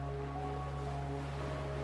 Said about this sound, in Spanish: Observando las olas del mar que rompen cerca de la orilla, llegando hasta casi tocar tus pies descalzos.